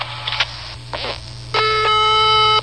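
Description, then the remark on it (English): A long, steady electronic tone from an answering machine sounds loudly and holds for about a second, following a few faint muffled clicks and rustles over a low background hum. “Hello, we're busy at the moment, but if you leave your name, number, and a brief message at the beep, we'll get back to you as soon as we can.”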